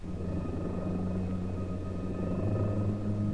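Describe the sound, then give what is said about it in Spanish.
A sled's turbine is started and runs steadily with a thin whistling whine over a deep droning rumble, like a small jet engine idling, holding an even pitch and loudness throughout. “Me coloco las gafas y pongo en marcha una turbina que silba como un pequeño jet.”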